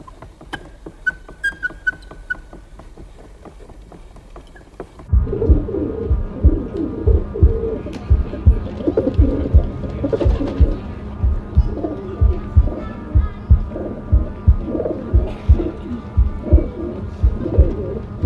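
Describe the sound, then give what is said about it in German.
A flock of pigeons coos in dense, overlapping, rhythmic murmurs that swell in suddenly after a few quieter seconds with faint chirps, then continue steadily to the end. “Ein Taubengestöber, ins graublaue Licht des Morgens geschleudert.”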